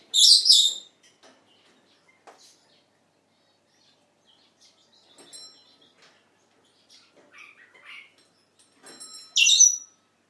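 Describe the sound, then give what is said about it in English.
Pet parrots chirp in bright, high bursts, loudest at the start and end, with softer twittering and a bubbly warble from a parrot named Charlie in between over a quiet background. “Oh, there's Charlie making a what bubbly noise.”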